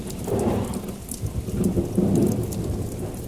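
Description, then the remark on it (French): Heavy rain pours steadily while low, rolling thunder rumbles underneath, swelling and fading across the stretch with no voices present. “À partir de là, la pluie tomba sans répit, accompagnée du tonnerre et des éclairs.”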